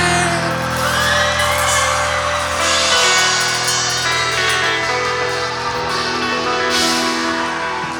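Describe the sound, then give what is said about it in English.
A crowd screams and whoops together with a performer over loud, dense live music, the noise sustained and energetic from start to finish. “Whoever was screaming with me, that was awesome.”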